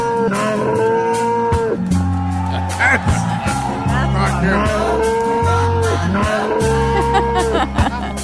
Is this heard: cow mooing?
yes